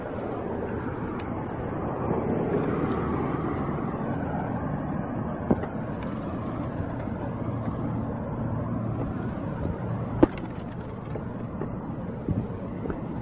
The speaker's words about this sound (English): Definitely too many cars in the street.